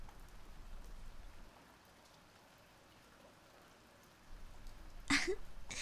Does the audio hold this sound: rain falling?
yes